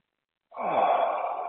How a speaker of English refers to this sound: Long and slow and deep, breathing in the present moment.